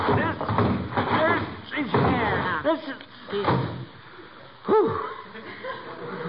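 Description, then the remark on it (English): Several people grunt and strain as a heavy old trunk is hauled up to carry it into the house, then it lands with a dull thud, with breathy chuckles mixed in around the effort. “That's the heaviest piece of luggage I ever saw.”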